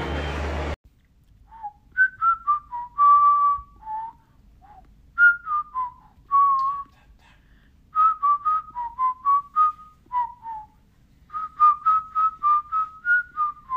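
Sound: person whistling a tune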